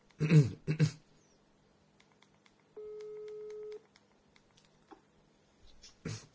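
A single steady phone ringback tone drones for about a second as a call is placed to an uncle, clear and moderately loud, bracketed by short rustling bursts and a few faint clicks in an otherwise quiet line.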